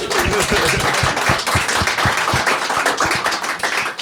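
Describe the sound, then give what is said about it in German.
Audience applause: a dense, steady wash of many hands clapping at once, loud and sustained throughout, with individual sharp claps popping through the crackling texture. “Applaus dafür, ey.”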